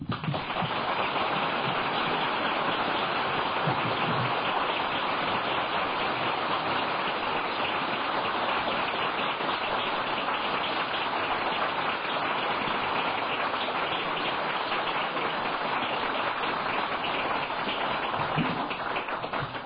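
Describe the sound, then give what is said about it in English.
An audience applauds steadily, a dense, even wash of many hands clapping that holds at a loud, constant level for about twenty seconds, with no voices. “Shouldn't have clapped.”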